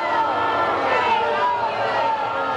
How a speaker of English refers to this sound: It's an overflow crowd here, with protesters holding poster board signs and yelling from the balconies. As Republican representatives leave the assembly chambers as a group, the crowd goes into a frenzy.